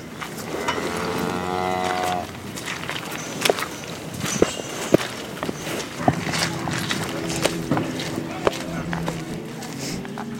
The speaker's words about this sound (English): Product of the hundreds of cows to our right.